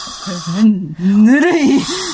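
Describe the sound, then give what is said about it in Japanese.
A breathy exhale of lukewarm breath blown at someone, airy hiss layered over a soft voiced hum, drawn out for about two seconds with a brief break midway. “ぬるい吐息を吹きかけるな。”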